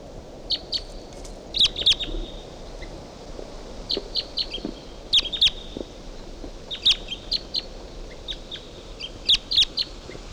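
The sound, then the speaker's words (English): A wild Type 2 bird calls at 7:51 a.m. from the top of a medium-sized ponderosa pine about 50 yards away, in repeated clusters of sharp, high chirps over a steady low background hiss, with short pauses between bursts and no talking. “This is bird 358, and there's a wild bird coming in.”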